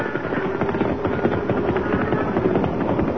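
A stampede of longhorn cattle: a dense, continuous rumble of many pounding hooves, loud and steady throughout, with rapid overlapping thuds and no voices.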